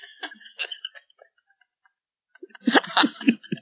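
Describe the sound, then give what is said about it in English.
A short, sputtering fart erupts after a few light clicks and a near-silent pause, its raspy, crackling burst lasting under a second. “I farted.”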